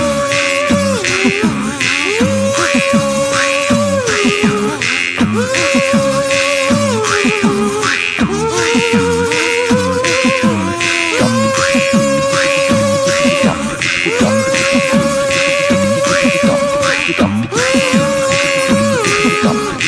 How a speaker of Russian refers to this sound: Очень новый варган, куплен на, в магазине «Аккордеон» на метро «Савеловский вокзал».